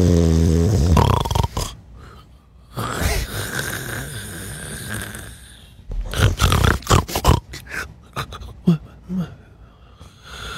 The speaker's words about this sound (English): That's me snoring.